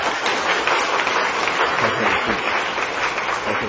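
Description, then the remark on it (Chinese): Sustained applause from an audience welcoming guests fills the whole stretch, a dense, steady patter of many hands clapping at an even loudness with no pauses. “咱拍手啊，该欢迎。”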